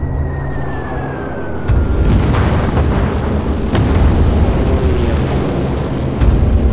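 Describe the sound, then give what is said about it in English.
A falling whistle gives way to a series of heavy bomb blasts, several sharp booms cracking over a continuous thundering roar of explosions and rumble, with no voices, as Japanese aircraft bomb ships anchored along Battleship Row in an attack on America. “It's not until ships actually start exploding, bullets start ripping through the decks, that they realize, oh my God, this is really real.”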